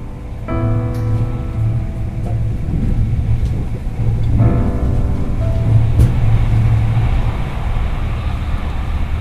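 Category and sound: vehicle, train riding on rails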